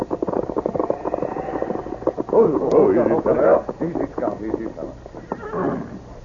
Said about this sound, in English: Horse stand under trees near trail. Yes, I see him.